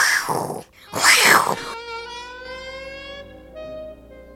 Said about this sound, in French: Le tigre se réveille et il rugit très très fort.